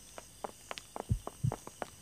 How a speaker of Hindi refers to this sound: अभी मुन्ना कुछ ही कदम चला था कि पीछे से कई लोगों के पदचाप सुनाई देने लगे। मुन्ना दोनों तरफ से घिर गया था।